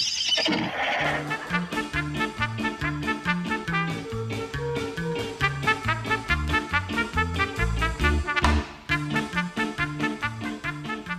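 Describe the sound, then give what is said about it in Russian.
A horse neighs briefly at the start, then a fast, steady galloping rhythm of riders racing along garden paths carries on against a busy musical backing. No one speaks. “Всадники пустились скакать во всю прыть по дорожкам сада.”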